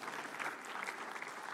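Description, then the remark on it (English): An audience claps together, a dense, steady patter of many hands that holds at an even level throughout, with no voices standing out above it. “Don't clap yet.”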